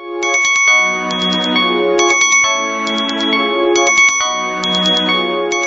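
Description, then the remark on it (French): A telephone rings out over the line during an outgoing call to Renaud Diano, with a loud, electronic, warbling tone, repeating in a steady pattern of short trilled bursts about every second and a half, with no voices. “Donc, je vous propose maintenant de joindre Monsieur Renaud Diano au téléphone.”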